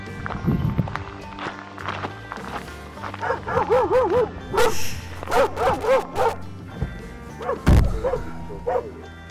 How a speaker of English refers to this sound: barky dog in fixed pursuit of my heels